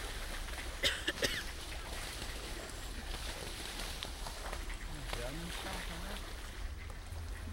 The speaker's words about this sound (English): Call the duck police. It looks like there's a riot going on. Come on then, have another go. We like that. Do it again.